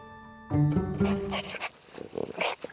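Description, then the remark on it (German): Ten dogs of all ages and sizes growl and snarl, a loud, rough rumbling that starts abruptly and carries on in overlapping bursts for about two seconds. “10 Hunde.”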